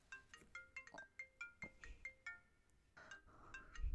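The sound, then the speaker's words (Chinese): A mobile phone rings with a call from a woman's husband, a bright electronic ringtone melody, quick repeated chiming notes in a steady rhythm, clear with no voices, and a soft low bump at the end. “把手机给我，我怎么能接我老公的电话呢？”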